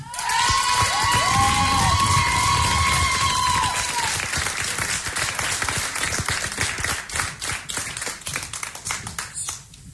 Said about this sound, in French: Allez, on va les applaudir tout de suite. Ils ont remporté le prix des internautes.